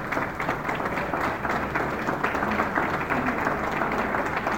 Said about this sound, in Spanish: bajo la dirección de la arquitecta Lorena Lungo del Sodre, para quien pide un aplauso.